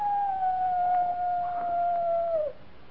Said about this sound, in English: It's just a coyote. Just a coyote.